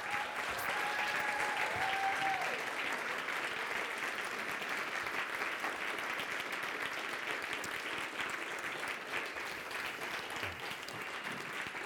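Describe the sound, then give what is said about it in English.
Sustained applause from a large standing audience for three people, a dense wash of clapping that stays steady and loud for the whole stretch, with a few faint whistles early on and no talking. “Stand on your feet. Let's get all three. Round of applause for our three.”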